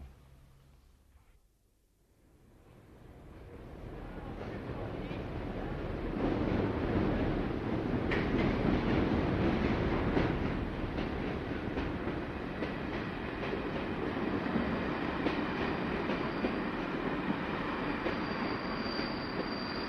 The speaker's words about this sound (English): Start of day three, and the train from Sligo has just pulled into the station in Mullingar.